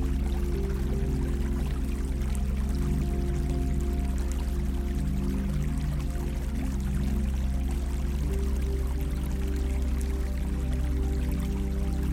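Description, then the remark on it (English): A river bubbles and murmurs in a steady, continuous flow, even in volume throughout, with a low rumbling undertone and no voices. “Immersed in the gentle sounds of the river, bubbling and murmuring beside you.”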